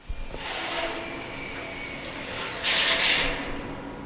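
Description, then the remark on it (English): A drill grinds steadily into metal beams 60 feet in the air, a continuous harsh whirring, with a louder, shrill screeching burst near the end before it settles back. “Here's what you learn when you drill metal beams 60 feet in the air.”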